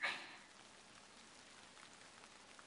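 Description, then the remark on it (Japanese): Steady rain falling outside, a soft continuous patter with scattered drops, heard from indoors at a gentle, even level with no voices. “雨、上がらないね。”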